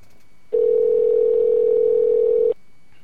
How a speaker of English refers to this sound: All right. Dialing American Eagle in Littleton, Colorado.